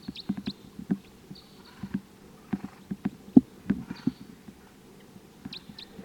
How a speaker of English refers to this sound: So recording, these are the wild birds. Decoys are calling. This is the wild bird.